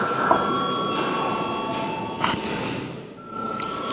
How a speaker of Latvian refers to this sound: Debats beidzam. Lūdzu zvanu.